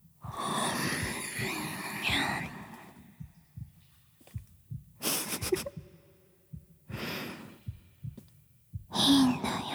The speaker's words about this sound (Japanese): 聞こえるでしょ、私の心臓の音。ドクンドクンドクンってちょっと恥ずかしい。ドキドキしてるな、バレちゃう。